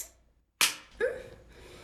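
One sharp, close smack of a hand on bare skin rings out of near-silence, then a brief voiced gasp or moan follows.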